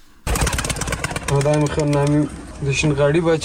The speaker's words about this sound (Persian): کفتر بازی از سنت های دیرینه باشنده های کابل است. هر صبح و شام کبوترهای رنگارنگ در آسمان کابل پر می زنند.